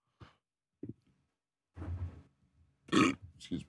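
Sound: burp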